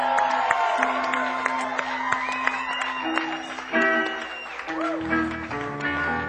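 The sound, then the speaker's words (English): A crowd claps and cheers steadily for several seconds for a drummer introduced on stage, with scattered whoops rising above the applause and sustained instrument tones ringing underneath. “And let's give a nice round of applause for my big brother”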